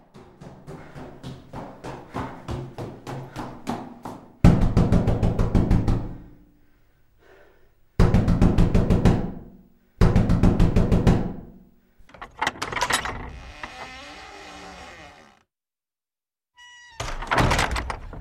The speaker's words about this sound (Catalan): Aquest grinyolar i aquesta porta que es tanca doncs li ve el pèl a el que anem a escoltar,